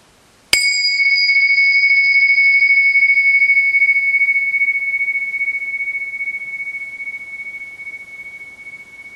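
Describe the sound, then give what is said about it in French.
A single meditation bell is struck once at the start of a presentation, giving a sharp attack and then a long, clear high tone that rings on and slowly fades over several seconds, with no voices. “Voilà, je vais vous inviter, avant de commencer la présentation, à ce qu'on écoute ensemble ce son de cloche pour démarrer tous ensemble dans une présence.”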